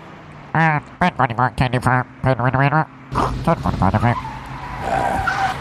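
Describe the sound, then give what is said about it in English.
A voice imitates a car as a sound effect, with a quick run of revving, stuttering engine noises, then a longer rough hissing whoosh like tires skidding, fairly loud. “Give me some car... Like, it sounds like we're outside.”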